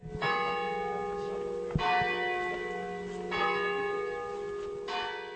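Church bells peal loudly and continuously from the Ermenville Church Tower in a little town, with fresh strikes roughly every one and a half seconds and long ringing overtones layering over each other. No voices are heard.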